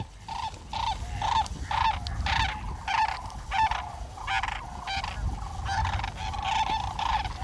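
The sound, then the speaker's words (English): A migrating flock of sandhill cranes, stopping over in Washington on the way north from Mexico to Alaska, calls over and over in a loud, overlapping chorus, rolling trumpeting notes coming in quick bursts above a low, rumbling background. “Migrating birds, too, like the sandhill cranes, are getting stressed.”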